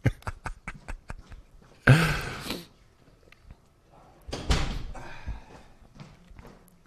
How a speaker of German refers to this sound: Soll ich eben die Tür zu? Ja, mach ihm mal die Tür zu.